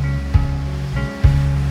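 Ocean waves crash onto the shore in a steady, loud roar, with two heavier surges breaking about a second apart. No voices are present.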